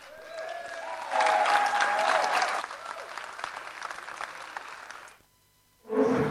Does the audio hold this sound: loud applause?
yes